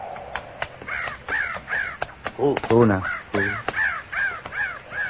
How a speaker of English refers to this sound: You hear that? Could mean Indians made a camp. Those crows ain't flying. Figure they're sitting in the trees waiting for a handout. Unless they're feeding on carrion.